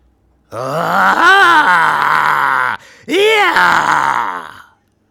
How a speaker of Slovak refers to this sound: Znovu sa ozval výkrik a pomaly tichol, budiac hrôzu.